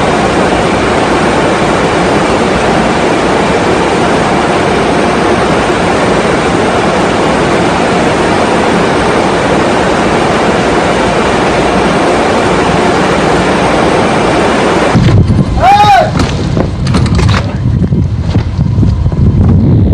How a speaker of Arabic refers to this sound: سجلت كاميرا جهاز الأمن في سوق مركزية تفتح طوال الليل هجوما عنيفا للإعصار.